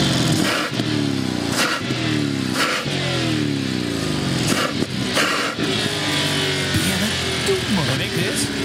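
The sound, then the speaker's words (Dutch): A Bentley Flying Spur's V8 engine revs loudly, its pitch surging and dropping in a series of quick blips before rising into longer, sustained climbs. “De Bentley Flying Spur met V8 motor.”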